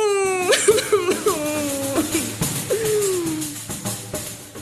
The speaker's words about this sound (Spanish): Afrodita, que nunca lloraba, esta vez sí que lloró.